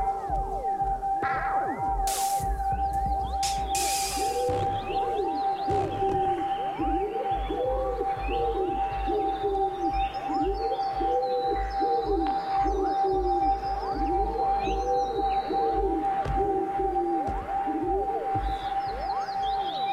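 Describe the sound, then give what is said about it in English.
A wood pigeon sings, cooing in repeated soft, hooting phrases with a steady rhythm. A constant tonal hum runs underneath, and a few rustling bursts sound near the start. “Wood pigeon, Columba Columbus, song.”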